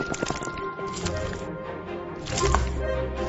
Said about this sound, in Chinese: 腱子肉切大块，炖煮入味